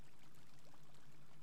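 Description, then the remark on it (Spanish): Soft, steady rush of flowing water, like a small stream running continuously in the background. It's fairly quiet, with no voices and no distinct splashes. “Y comienzo a escuchar el sonido del agua.”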